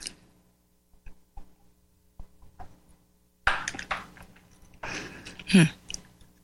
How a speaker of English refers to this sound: I thought I had my coughing under control before the program, but apparently I didn't.